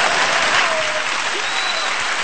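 Thunderous applause, a dense, steady roar of many hands clapping at once that stays loud and unbroken throughout, with no talking over it.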